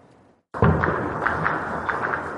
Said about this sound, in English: The sounds of gunfire echoed across the Sudanese capital, Khartoum, and other towns Monday afternoon.